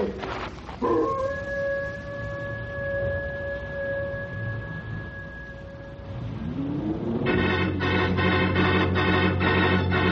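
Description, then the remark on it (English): Many wolves howl: a long, steady howl holds one pitch for several seconds, then fades; a rising wail follows and gives way to a dense, buzzing drone that carries on to the end. “All I can see is a lot of wolves running around down there.”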